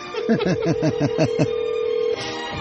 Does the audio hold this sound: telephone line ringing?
yes